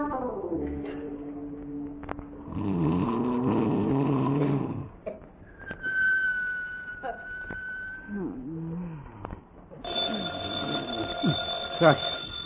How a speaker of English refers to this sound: Is that the phone? Oh, who on earth can be calling at this hour? Gee whiz, it's the telephone.